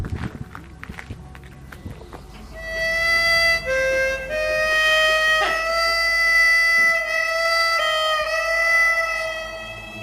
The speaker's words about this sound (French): Au loin, j'entends des cloches.